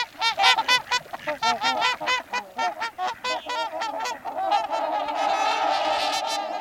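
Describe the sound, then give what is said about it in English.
A flock of swans calls in a rapid series of honking, bugling notes, many birds overlapping, loud, rising into a dense continuous chorus toward the end. No talking. “In the fall and winter, tundra swans fly to wetlands in the west and mid-Atlantic.”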